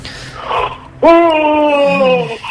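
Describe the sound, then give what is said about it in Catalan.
A person yawns: a breathy intake of air, then a long, loud, voiced moan holding a steady tone for over a second before sagging lower in pitch and fading out. “Badalla una mica, va, badalla.”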